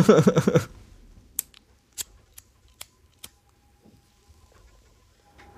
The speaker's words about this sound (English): There's going to be a lot of lighter clicking sounds on this interview. That's all right. That's light sound effects.